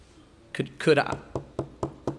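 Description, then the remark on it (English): A short vocal sound comes first, then four evenly spaced knocks on a wooden surface, crisp and fairly close, landing in a steady rhythm. “you may have Jesus outside of your own life, knocking on the door of your heart, saved and on your way to heaven, and Jesus is going, could I be a part of your life?”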